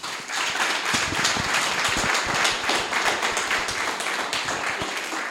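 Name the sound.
audience applause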